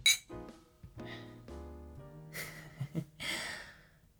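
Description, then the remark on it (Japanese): A single bright clink of glasses rings out at the start of a birthday toast, followed by soft tonal ringing and a couple of breathy exhales, with no talking. “じゃあ改めて誕生日おめでとう、乾杯。”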